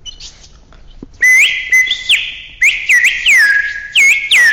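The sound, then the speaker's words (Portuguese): A shrill bird whistle, used as a radio sound effect to suggest a sunny day, trills and warbles in quick bursts, mimicking birdsong with rapid upward and downward sweeps, loud, after a brief quiet start. “Então, como é que se reproduz um dia de sol? Com um apito que faz o”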